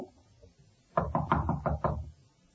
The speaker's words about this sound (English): Knock again. Right. Nobody home.